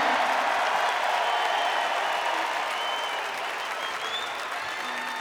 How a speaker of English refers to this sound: And the reason I pointed out, and I think we should all give him a really round of applause, because not only it takes guts to work with …, but it takes even more guts to get married like he did last week in Florida to his lovely wife,